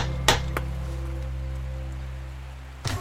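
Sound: door knocker knocking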